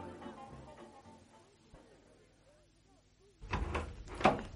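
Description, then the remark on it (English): Voices murmur, then fall quiet before a side door leading into a courtyard is heard: a rattling opening followed by a louder thump as it shuts, two broad bursts about a second apart. “For heaven's sakes, he's taking her out through the side door that leads into the courtyard.”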